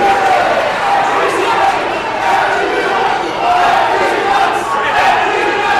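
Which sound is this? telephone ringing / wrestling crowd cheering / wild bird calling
wrestling crowd cheering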